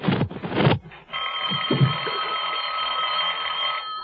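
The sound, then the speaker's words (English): A telephone bell rings in one steady, unbroken peal for about three seconds, bright and metallic with a buzzing shimmer, after a few short rustling and thumping noises. “I'd better answer it. It might be the operator.”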